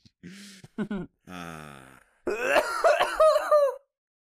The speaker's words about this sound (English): No, that was my cough. I don't know. I do kind of like the sort of violent nature. It really kind of drew me in. Yeah, it's like, I don't know. I've been sick this week.